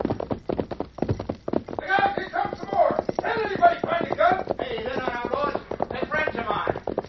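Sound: horses galloping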